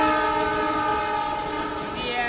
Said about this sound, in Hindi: यात्रीगण कृपया ध्यान दें, लखनऊ से कानपुर, झांसी, भोपाल, मनमाड, नासिक होते हुए मुंबई छत्रपति शिवाजी टर्मिनस जाने वाली गाड़ी संख्या 1501 छपरा मुंबई जन साधारण एक्सप्रेस प्लेटफॉर्म नंबर 3 से रवाना हो रही है।